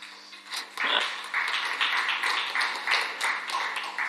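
An audience breaks into steady applause, many hands clapping in a dense, continuous patter that rises quickly after a quiet start and holds at a moderate level for several seconds.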